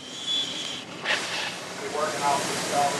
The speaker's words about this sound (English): Mayo aims the high-pressure spray low, where the simple man's hull meets the water. He methodically works all the way around the boat as the captain above maneuvers the tug to avoid a bladder full of oily water the shrimp boat is towing inshore